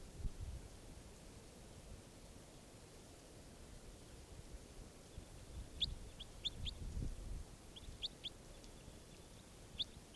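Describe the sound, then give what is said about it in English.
A bird calls with short, high, sharp chirps in a few quick clusters during the second half, over a steady background hiss and low rumble. No one speaks. “This bird 587 again.”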